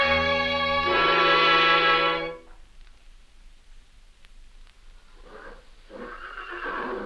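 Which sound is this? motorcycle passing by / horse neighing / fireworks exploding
horse neighing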